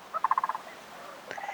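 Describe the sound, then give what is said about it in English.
A sandhill crane's rolling, rattling call: a quick burst of about eight throaty pulses, then a short pause and a second rattling call rising in again, with no voices present. “This is the call of the sandhill crane.”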